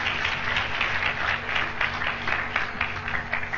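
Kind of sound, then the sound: crowd, audience clapping and applause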